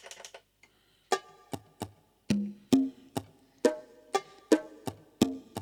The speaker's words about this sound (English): You can hear, especially with that sound, there's two clicks very close together instead of one.